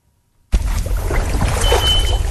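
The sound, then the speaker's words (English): A group of scientists with research equipment on their backs wading through a stretch of tropical river in rainforest country north of Cairns, Queensland, with steady sloshing and splashing water that starts abruptly after a brief silence and continues without pause. No one speaks. “In rainforest country north of Cairns, a group of scientists trudged through a stretch of tropical river.”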